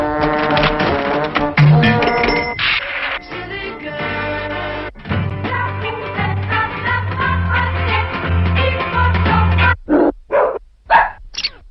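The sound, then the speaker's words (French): An electronic guard dog device barks, with synthetic, tonal woofs and droning sounds giving way to a few loud, separate bark bursts near the end. No one speaks. “Un chien de garde électronique pour remplacer le vôtre trop encombrant.”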